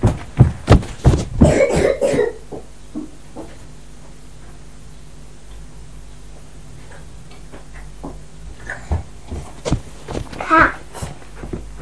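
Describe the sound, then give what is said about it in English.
A cluster of sharp coughs at the start, then a quieter stretch with faint ticking and background activity, before another short burst of coughing near the end. “We've got coughs.”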